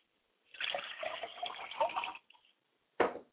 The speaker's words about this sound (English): I pour libations now to the north, and I say Ashe.